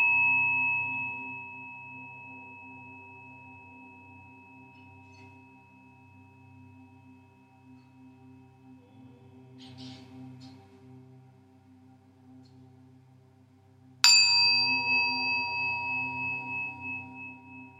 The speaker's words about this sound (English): The practice of Yoga Nidra is coming to an end. You will arise refreshed, awake, renewed, and transformed. You will hear 3 chimes. Afterwards, arise slowly when you are ready.